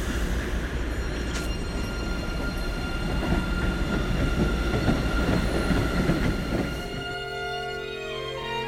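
A train rolls past on the tracks with a loud, steady rumble and rattle for several seconds, then the noise thins into a lingering tonal whine as it moves away. No one speaks.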